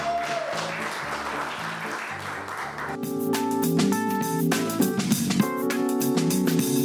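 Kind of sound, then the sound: crowd, applause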